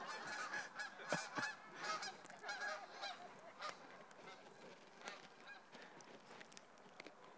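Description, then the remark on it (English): A flock of geese honks repeatedly outdoors, the calls overlapping in a noisy, uneven chorus that is loudest early on and thins out toward the end. “Those birds are here to”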